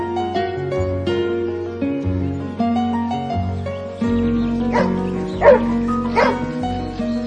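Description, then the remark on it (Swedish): A dog named Filip barks three times in short, sharp bursts near the end, heard over steady instrumental music that plays throughout. “Filip hade blivit precis som en helt annan hund sen Olle fick ta hand om honom, och vi bara önskade att skomakaren skulle vricka den andra foten också så att Olle fick ha kvar Filip lite till.”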